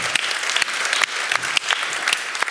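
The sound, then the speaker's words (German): An audience at a presentation claps steadily as extra applause for the team's illustrator, a dense wash of many hands with scattered sharper claps standing out, sustained at an even loudness throughout with no talking over it. “Also, ne, extra Applaus.”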